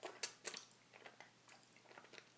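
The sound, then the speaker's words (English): Wet mouth noises of a person licking and slurping during oral sex: a few sharp smacking bursts with softer squelchy sounds between them, ending on a louder wet smack. Nobody speaks. “I'm licking and slurping on your clock.”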